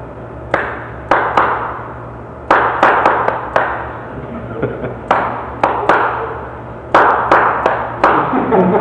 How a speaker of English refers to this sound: All right, now I'm going to clap out a tune for you and see whether you can tell me what it is.